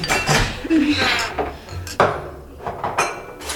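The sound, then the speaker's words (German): Dishes and cutlery clink and clatter as waiters bring food and clear away dishes during an evening event, a busy stretch of several sharp clattering hits over a murmur of background voices. “Unermüdlich liefen die Freunde an diesem Abend hin und her, brachten Speisen und räumten Geschirr ab.”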